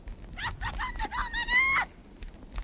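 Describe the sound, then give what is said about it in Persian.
A girl's high-pitched scream rises and wavers for over a second, preceded by a few short shrill cries, fairly loud, with no talking. “صدای جیغ دختر هر سه نفر رو به خودشون میاره.”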